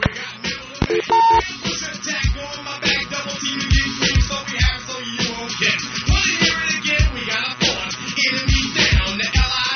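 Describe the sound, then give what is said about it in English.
A quick run of touch-tone telephone dialing beeps sounds early on as a call is redialed, short and bright, then gives way to a dense, loud background of music-like sound that continues steadily to the end. “I'm going to do that call again.”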